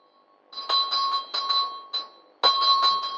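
A small bell rung by pulling a rope, used by a woman alone in a shed to call for someone, jangles in several quick bursts, bright, with a short pause before a final louder peal. No voices.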